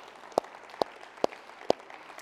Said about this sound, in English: Yes, let's give him a round of applause.